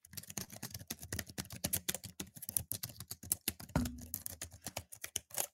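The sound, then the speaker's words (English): Rapid, continuous clacking of keys on a computer keyboard, dozens of quick irregular strokes, with a brief low thud near the middle and no talking. “Fourth person, definitely bring that keyboard and put it at your desk when we go to the studio.”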